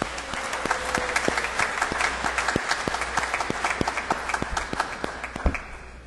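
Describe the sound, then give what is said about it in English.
An audience breaks into a sustained round of applause for the mothers present on Mother's Day, many hands clapping in a dense, crackling wash with scattered sharper claps standing out, steady in loudness throughout. “Let's give our moms a big round of applause.”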